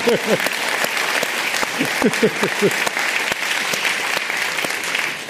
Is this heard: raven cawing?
no